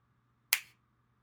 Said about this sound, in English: Good. Now remember this. Item number two will come to you when I snap my fingers again.